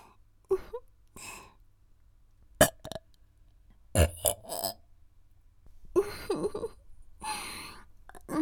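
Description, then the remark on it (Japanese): Several burps come in short, separated bursts, some rough and drawn out with breathy sighs between them, against an otherwise quiet background. “エロゲップ出ちゃう。”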